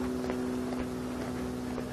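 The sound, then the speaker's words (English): A very small single-engine aircraft drones steadily overhead on a morning, its buzzing, mosquito-like engine hum holding an even pitch and volume throughout, with a faint airy rush behind it and no voices. “Very small engine aircraft, probably single engine.”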